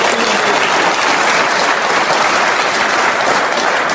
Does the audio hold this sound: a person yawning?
no